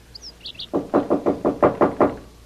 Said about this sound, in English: I look out the window across the pool. Sure enough, this guy is on the balcony in front of 2A, banging on the door.